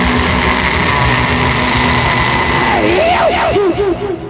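motorcycle engine

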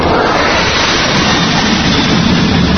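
jet airplane taking off

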